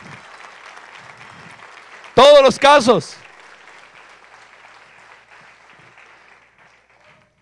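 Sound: applause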